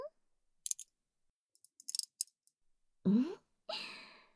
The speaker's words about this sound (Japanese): まず、鍵を開けて。はーい、外すわよ。